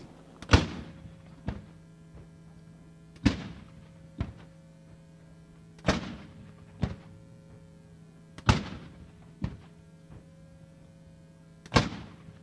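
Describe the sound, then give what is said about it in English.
Ceremonial cannon fire at the National World War I Centennial on April 6, 2017, at the National World War I Museum and Memorial in Kansas City, booms out about every two and a half seconds, five loud blasts each trailed by a fainter echoing thud, with a steady low hum underneath and no one speaking. “Cannon Fire from the National World War I Centennial, held April 6, 2017 at the National World War I Museum and Memorial in Kansas City.”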